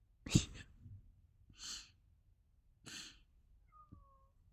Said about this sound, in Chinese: 猫过来了，它发现了我们，嘘。